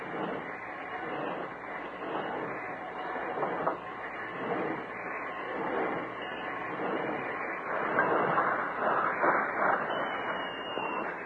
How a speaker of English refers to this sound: Later, after hiding their horses behind some big boulders nearby, Jack and Lou crouched behind some tall bushes near the siding and waited until the work train had rolled to a stop.